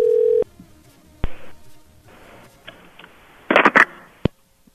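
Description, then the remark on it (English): A loud, steady telephone dial tone hums for a brief moment after a hang-up, then cuts off, followed by scattered clicks, rustling handling noises and a few sharp knocks. “I just got hung up on.”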